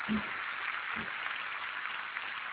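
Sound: audience applause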